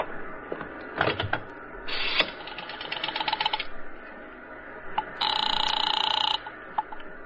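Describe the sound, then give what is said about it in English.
A telephone's rotary dial clicks and whirs in quick ratcheting bursts, followed by a steady buzzing ring tone lasting about a second, with faint handling noises around it. “Where's your phone? It's over there.”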